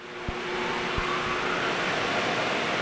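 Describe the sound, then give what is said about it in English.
A powerful fan at a car wash in Santa Monica, California roars steadily in a broad, hissing rush of air, blowing water off a car into a floor grate for recycling, with a couple of dull low thumps early on. The sound is loud, and no one speaks. “A fan blew all that water into a floor grate to be recycled for the next wash.”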